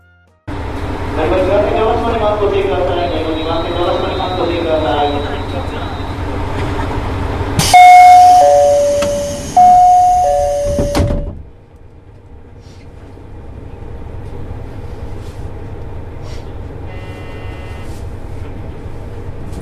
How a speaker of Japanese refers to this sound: ここで私もここでデッキに立ちながらIC コーダーをちょっと、取り出して録音してきましたので、網走駅を出発してから、まあ、大体5分ぐらいなんですけども、トンネルを一つ抜けて、流氷のお話をその網走市観光ボランティアガイドの方がするまで、これをちょっと聞いていただきたいと思います。